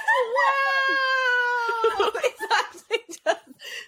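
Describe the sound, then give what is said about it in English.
A voice imitates a whale with a long, wavering, tonal moan that glides slowly downward for about two seconds, followed by a burst of laughing and excited vocal sounds. “Like making like whale noises or something.”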